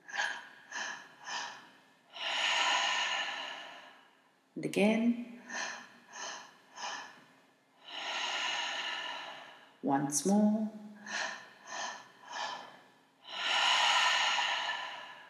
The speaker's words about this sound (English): And let's commence breathing now.